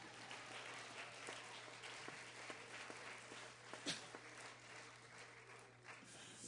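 An audience claps steadily in sustained applause, a dense wash of many hands with a few sharper claps standing out, for the whole stretch.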